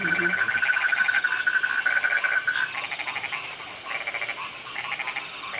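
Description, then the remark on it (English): A dense outdoor chorus of crickets chirping with birds singing, a steady high pulsing trill running continuously and fairly loud throughout, layered with other rapid chirps, in a valley with a river. “Can you hear the song of nature? The cricket, the birds.”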